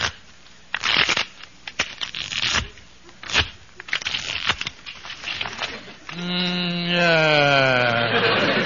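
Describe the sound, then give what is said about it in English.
A deck of playing cards is shuffled before dealing a card game, in several quick, crackling riffles for about six seconds, then a sustained, gradually falling tone takes over. “Now I'll just shuffle the cards here.”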